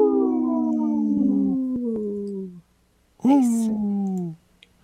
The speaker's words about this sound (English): Portion of the show is supported by Howling for Wolves, protecting wolves for future generations. Howl! Howl! Howl!